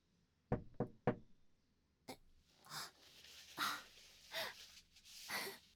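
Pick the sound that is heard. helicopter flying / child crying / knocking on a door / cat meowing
knocking on a door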